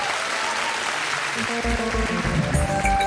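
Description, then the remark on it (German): An audience applauds for Katja Riemann, author of the book Zeit der Zäune, with dense, steady clapping at an even level. About halfway through, music with sustained tones and a low beat enters under the clapping. “Jetzt klatschen Sie für Katja Riemann.”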